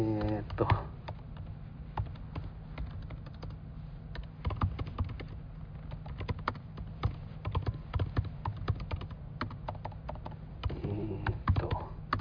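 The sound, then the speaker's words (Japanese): Rapid, irregular clicking of keys being typed on a MacBook Air laptop beside the speaker, continuing throughout with a low steady hum underneath and brief bursts of voice at the start and end. “すみません、タイプ音とかもめちゃめちゃ入ってますよね。横で今 MacBook Air を振ってるので、”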